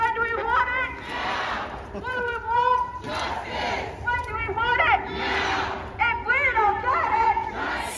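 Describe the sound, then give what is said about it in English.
A crowd of protesters shouts in unison, rhythmic bursts of raised voices chanting in repeated phrases, loud and continuous across the whole stretch, with scattered thuds underneath. “I think they're shouting they want justice now, and justice in the form of killing babies.”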